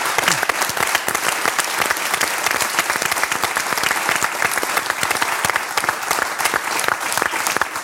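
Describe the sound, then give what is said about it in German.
Sustained applause from an audience, a dense, steady wash of many hands clapping for several seconds with no voices rising above it. “Du hast einen Applaus.”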